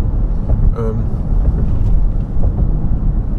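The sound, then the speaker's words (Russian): Steady, loud low rumble of a car cruising on a freeway with no traffic, with road and wind noise filling the cabin and a brief tonal squeak near the start. “Потому что, друзья, попав на фривей, мы уже понимаем, что мы почти дома.”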